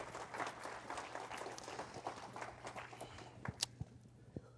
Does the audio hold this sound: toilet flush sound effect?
no